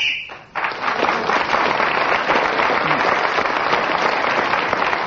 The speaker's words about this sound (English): Well, at the end of 60 seconds, the ambassador blows his whistle, and that tells us that the time is up, and whoever is speaking at that moment gains an extra point.